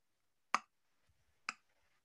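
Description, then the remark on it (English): Two crisp clicks land about a second apart, mimicking the steady ticking of a clock, probably made with the mouth, with near silence around them. “The clock was going.”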